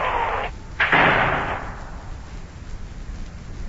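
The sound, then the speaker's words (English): Two sharp cracks of thunder in quick succession during a lightning storm outside, the second louder and rolling off into a fading rumble, with a steady hiss of heavy rain continuing underneath. “Boy, that lightning sure is flashing outside.”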